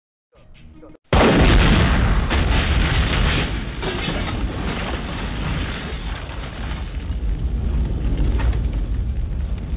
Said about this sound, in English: I love when the fucking explosions come. I need you to do that one more time. Now I'm on my funk flex, I'm dropping bombs.